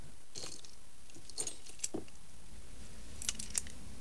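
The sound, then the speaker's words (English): Light metallic clinks and jingles come in a few scattered bursts as a set of keys with a blue parrot keyring is handled, examined, then tossed back into a suitcase. “He examines the keys, then tosses them back into the case.”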